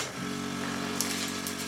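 A medical suction device clearing a patient's lungs in an intensive-care shared flat (Intensiv-WG) runs with a steady, buzzing motor drone, its even tone holding throughout, with brief hissing gurgles of air breaking in near the end. No one speaks.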